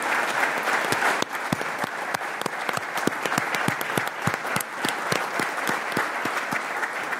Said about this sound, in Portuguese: Uma salva de palmas para a Doutora Fátima Moreira.